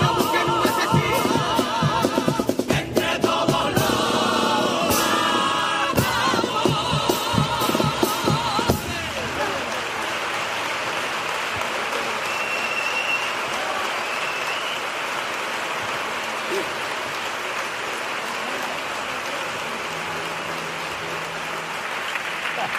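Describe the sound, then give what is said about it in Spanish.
A crowd applauds loudly and densely after a carnival paso doble whose lyrics speak out against bullying, with clapping and a few sharp claps at first, then settling into a steady, slightly softer wash of applause that continues throughout. “Para aplaudir este paso doble, una letra contra el bullying y apelando a esa responsabilidad compartida.”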